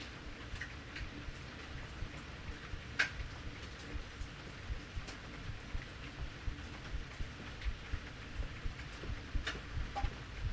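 Steady rain falls, a dense low patter with scattered sharper drips and taps breaking through now and then. No one speaks.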